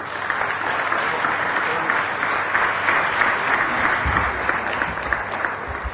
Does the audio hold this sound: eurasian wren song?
no